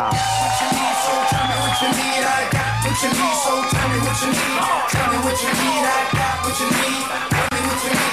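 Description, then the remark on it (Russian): Loud audience applause welcoming performer Timur Kashtan Batrutdinov for his act fills the space, thick and continuous, mixed with scattered whoops and whistles, while a steady thumping musical beat pulses underneath. “Для своего выступления я под ваши громкие аплодисменты приглашаю сюда Тимура Каштана Батрутдинова.”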